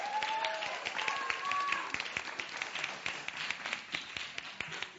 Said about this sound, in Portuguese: Belíssimo espetáculo. Por favor, salva de palmas.